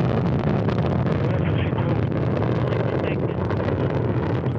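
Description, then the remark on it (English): A Soyuz rocket's engines roar steadily at liftoff, carrying Jack Fisher and Fyodor Yurchikhin to the International Space Station: a dense, rumbling wall of noise that stays loud and unbroken throughout, with gusty crackling texture like wind buffeting a microphone. “The engines firing now, building up to flight speed and liftoff.”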